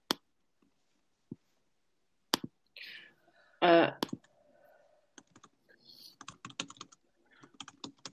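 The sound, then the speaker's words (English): Scattered clicks of typing on a computer keyboard heard over an online call, quick bursts of keystrokes with pauses between them, plus a brief louder thud and faint background noise; no one speaks. “Oh, we can hear you're typing, somebody.”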